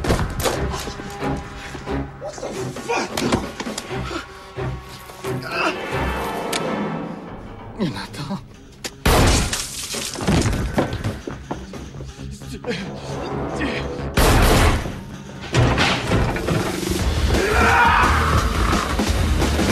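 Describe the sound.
Gunfire rings out in a few loud, sharp bursts as a man fires at men racing towards him and closes the lift doors. The shots cut across a dense, busy soundtrack, with voices and action noise filling the gaps between shots.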